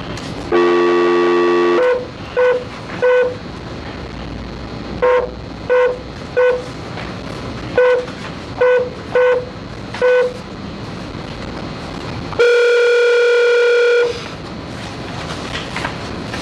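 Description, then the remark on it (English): Outgoing phone call tones: a brief steady tone, then clusters of short, evenly pitched dialing beeps, followed by a longer ringing tone, as a call is placed from the Arizona Board of Executive Clemency before a hearing. Loud, with a faint background hum and no talking. “If you just could hold on for a moment, we need to make a phone call.”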